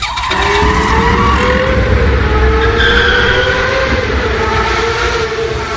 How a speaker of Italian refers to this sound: Quando tutto sembrava tornato alla quiete e restava solo da saldare il conto, Federico riconobbe il rombo della moto di Carlo che partiva sgommando.